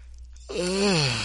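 After a moment of quiet, someone lets out a long, voiced yawn while stretching in a brace, sliding downward in pitch and trailing off, loud and strained.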